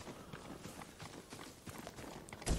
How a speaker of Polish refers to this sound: Co za dźwięk jest? To jest jakiś koń, czy co to jest?